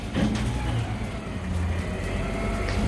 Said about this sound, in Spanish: Estamos acostumbrados a que si algún ruido nos despierta de madrugada, ese ruido sea el del camión de la basura.